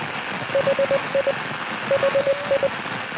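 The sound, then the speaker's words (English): A steady hiss of radio static fills the background while a thin, beeping tone pulses through it in two clusters of short, evenly spaced beeps: the radio beacon of the Australis Oscar 5 satellite cutting in and out of the static, tracked on 29.45. “And suddenly, out of the static, did it. And it was there. It was working.”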